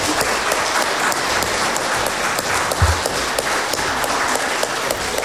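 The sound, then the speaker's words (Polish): A crowd applauds steadily at the end of a debate as the opposition side is announced the winner, many hands clapping in a dense, even patter that holds at a constant loudness for several seconds, with no voices on top. “Brawa!”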